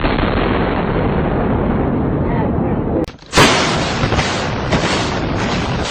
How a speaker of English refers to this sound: Hours after the attack, many smaller explosions rumbled through downtown. Because once the tower fell, you heard boom, boom, boom, boom, boom, boom, boom. And we heard this boom, boom, boom.